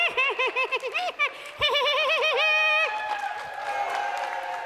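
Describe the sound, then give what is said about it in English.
A voice imitates a cartoon woodpecker laugh: a loud, rapid string of high, warbling staccato hoots lasting a few seconds, followed by a crowd cheering and applauding. “I can't do the Woody Woodpecker laugh.”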